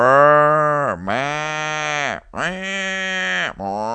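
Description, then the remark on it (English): Cows moo loudly, a string of long, drawn-out lows following one another with only brief breaks between them, each call dipping and swelling in pitch. “They're mooing, they're lowing as they went.”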